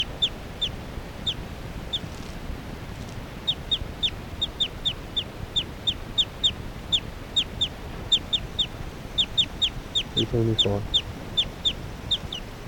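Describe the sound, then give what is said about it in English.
Short, high-pitched bird chirps repeat in quick clusters throughout, over a steady low rumble, with a brief lower-pitched call near the end; occasional chirps heard by point 378. “Occasional chirps by 378 there.”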